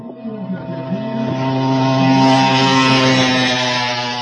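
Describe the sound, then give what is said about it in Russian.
Rally car number 21, crewed by Leonid Melnikov and Vyacheslav Takaev of the Russian Federation, crosses the finish line, its engine roaring past with a steady, buzzing harmonic drone that swells louder as it approaches, staying loud and continuous throughout. “Первой линию финиша пересекает машина под номером 21.”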